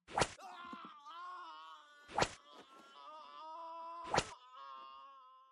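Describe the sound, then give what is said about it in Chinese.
Three sharp lashes of a whip soaked in salt water and fitted with blade hooks land about two seconds apart on a person's wax-covered skin, each one followed by a drawn-out, wavering cry of pain that fills the gaps between the lashes. “叫得好惨呀，这声音听起来真是赏心悦目呢，连身上红色的蜡油都被打掉了，下面的皮肤也被鞭子上的刀钩扯了好多下，血淋淋的。”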